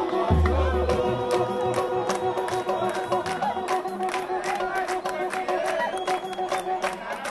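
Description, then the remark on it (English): Dense, lively crowd chatter at a samba gathering at a historic site known as the birthplace of samba in Rio de Janeiro, Brazil, many voices overlapping steadily, with frequent sharp claps or percussive hits and faint tonal music running underneath; a low droning tone sounds briefly at the start. “The crowd here is a perfect slice of Brazil's racial mix.”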